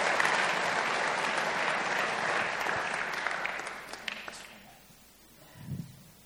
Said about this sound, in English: So give this man a round of applause.